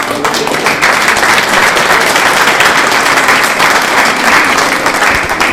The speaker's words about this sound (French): J'aimerais qu'on l'applaudisse ce soir.